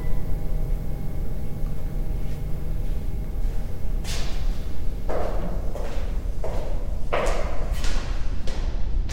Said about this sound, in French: The heck was that? Qu'est-ce que c'était? Sounds like the table just flipped over. Yeah. Did you guys drop something upstairs? Yeah, sorry about that.